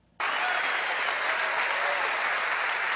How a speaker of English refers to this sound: And listen to all those bigots in San Antonio just a-clapping and a-hooting. You know, when they're clapping, they're fanning the air, and when they're hooting, they're spewing virus particles.